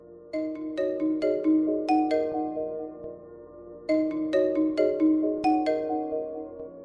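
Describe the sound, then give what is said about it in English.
A mobile phone rings with a bright, chiming melodic ringtone, playing its tune twice with a short pause between, for an incoming call from the owner's wife. Clear, with no voices. “Before I could do anything else, my phone started ringing.”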